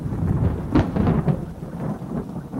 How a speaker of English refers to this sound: It wasn't my alarm that woke me up, it was thunder.